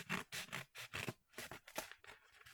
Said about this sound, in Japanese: ね、袋で届いたからちょっとハサミ使います。ハサミ使うのマジで下手なんだよな。